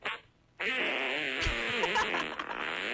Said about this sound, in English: Let's just listen to fart noises. I think this is great.